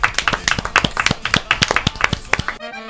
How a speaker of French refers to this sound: On applaudit très très fort. Il chante bien, il chante bien.